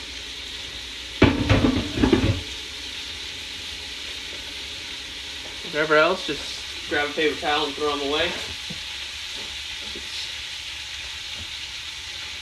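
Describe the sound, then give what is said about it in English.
Steady hiss and crackle of chopped onions sizzling in a hot pan, with a brief clatter early on and a person speaking over the frying. “Wasn't feeling anything while cutting the onions, but now that I tossed them in there, now I'm starting to tear up.”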